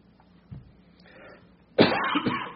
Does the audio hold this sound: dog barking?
no